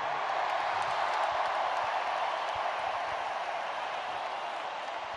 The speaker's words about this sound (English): Take your hats off. Whatever you need to do, clap as loud as you need to clap, because this organization is number one in the entire world.